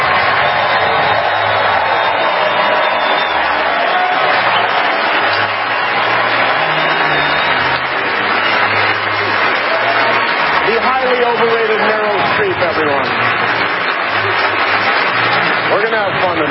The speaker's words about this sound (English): Meryl, stand up if you would. Everybody, please join me in giving Meryl Streep a totally undeserved round of applause, will you?